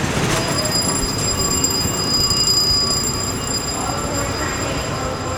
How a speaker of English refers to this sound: She met our producer early in the morning at the terminal of the Long Island Railroad. That's the commuter train that runs east of New York City. Should we get on?